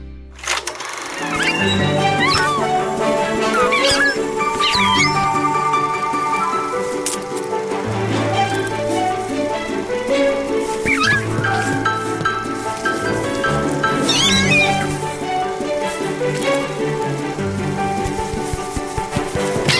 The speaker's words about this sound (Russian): Умиротворяющая музыка и птичий щебет. Воображению невольно рисуется безмятежная картина.